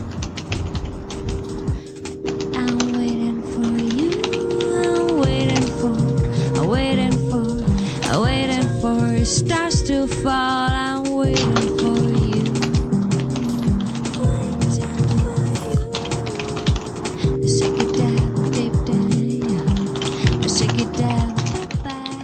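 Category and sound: typing on computer keyboards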